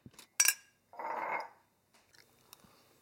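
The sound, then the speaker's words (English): A spoon clinks sharply against a tiny opened tin of spaghetti hoops being eaten cold, followed by a soft scraping and a few faint metallic taps, with no one speaking. “I've just taken the top off a tiny little tin of spaghetti hoops and I'm eating them cold with a spoon.”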